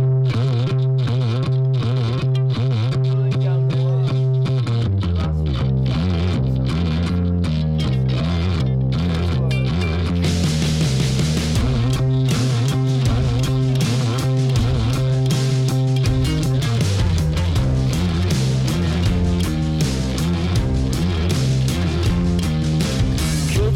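A loud, continuous rock recording from a quartet's second album, with heavily distorted electric guitar playing dense, sustained chords, no singing, the sound growing brighter and fuller about halfway through.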